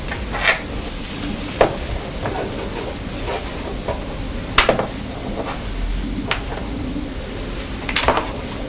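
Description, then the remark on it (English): Steady shaking of a bath toy with a little water sloshing inside, a continuous hissy swish broken by a few sharp clicks and knocks at irregular moments. “Don't shake it too hard.”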